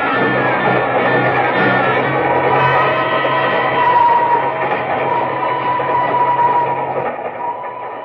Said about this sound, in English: cattle train. When do we get to Kugama, anyhow? Tomorrow noon.